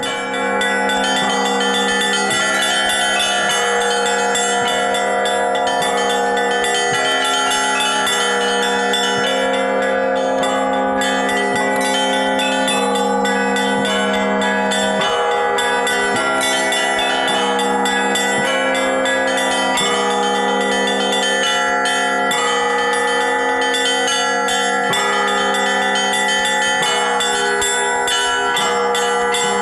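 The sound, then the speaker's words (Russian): Church bells ring continuously from the top of a bell tower in the Russian North, bells acquired in 2008 and raised onto the tower of the Church of the Twelve Apostles in July 2008; overlapping strikes blend into a dense, resonant peal with rich metallic overtones, loud and sustained throughout with no voices. “А на самом верху, как и прежде, звучит колокольный звон.”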